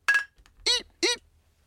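A single bright clink of glass with a short ringing tone as people toast, followed by two brief voiced exclamations.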